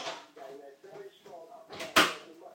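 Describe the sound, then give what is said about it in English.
A single sharp thud of a dishwasher door being pushed shut, loud, following a stretch of low muttering voice. “Oh, the door's not shut properly.”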